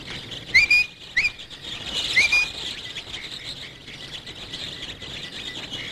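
Starlings singing: a few sharp, high whistled chirps in the first seconds over a steady bed of busy, chattering bird noise, with no one talking.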